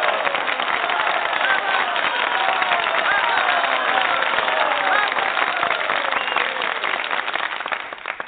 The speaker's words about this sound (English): And we really thank our Teen Talkers. So let's give them all a big round of applause.